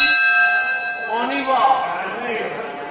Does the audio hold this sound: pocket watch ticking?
no